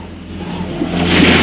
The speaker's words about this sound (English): Sandy brakes on a town street and turns left to avoid the fog.